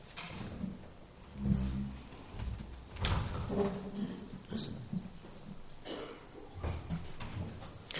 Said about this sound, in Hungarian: kérem, hogy csukd be az ajtót, megötted, légy szíves.